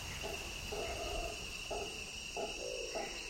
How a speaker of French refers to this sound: On entend d'abord les chants des insectes et des grenouilles.